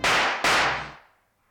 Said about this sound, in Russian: Он выстрелил и промахнулся. Я выстрелил почти одновременно с ним, и он рухнул на пол.